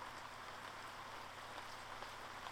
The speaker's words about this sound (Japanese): ああ、降ってきたか。かすかな雨音に気づいて振り返ると、粒の大きな水滴がテラスを濡らし始めていた。